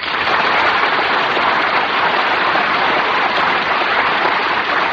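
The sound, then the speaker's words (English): An audience applauds in honor of Mr. Mankiewicz, winner of five Academy Awards, clapping steadily for the full five seconds, a dense, even wash that stays loud throughout with no voices over it. “Mankiewicz cannot be with us tonight, I should like to ask that all of you join Jane and myself in applauding him.”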